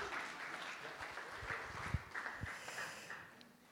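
An audience claps steadily as a round of applause for someone's drawing of a foot, a dense wash of many hands with a few sharper, louder claps standing out before the applause tapers off.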